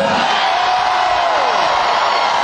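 A loud, dense roar of a concert crowd in Nashville cheering continuously as the band comes out and the crowd is being wired up, with a single whoop sliding downward above the din.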